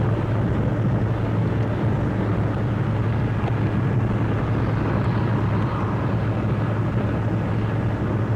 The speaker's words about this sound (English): Cars are plowing along this MacArthur Boulevard to the beach. Gangbusters. God, really like a freeway.